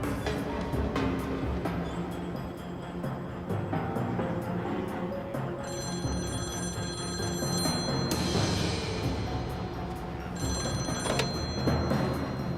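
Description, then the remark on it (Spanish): A telephone bell rings repeatedly in steady bursts, fairly loud, over a dense background of low rumble and clatter, with no one speaking. “Era Guthrie al teléfono.”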